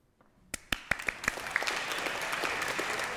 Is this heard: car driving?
no